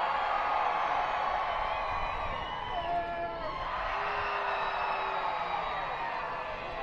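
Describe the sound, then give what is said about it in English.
Dense, steady crowd roar at a baseball stadium during a Woo Sox game fills the whole clip, with scattered whoops and whistles rising briefly above the murmur before it settles back into a constant wash of voices. “So I think with the crowd noise, I don't think he could hear the pitch come.”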